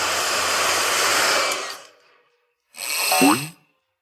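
Someone blows up a blue inflatable balloon: a long, steady rush of breath lasting a couple of seconds, a brief pause, then a shorter puff of air with a rising, squeaky tone.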